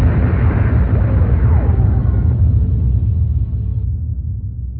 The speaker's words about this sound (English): And as the viewport erupted in a blazing firestorm of laser fire and missile explosions, the Fate Spinner's entire starboard aft flank disintegrated.